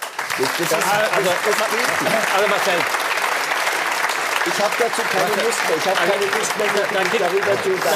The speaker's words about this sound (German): Dafür kriegst du natürlich totalen Applaus, aber was ist deine Antwort?